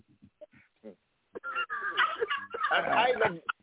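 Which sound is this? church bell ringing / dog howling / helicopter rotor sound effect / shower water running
dog howling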